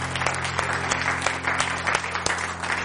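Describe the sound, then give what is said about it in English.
An audience claps their hands in steady, dense applause, many sharp claps blending into a continuous patter at an even, fairly loud level, with a low steady hum underneath. “Let's give him a hand clap for that.”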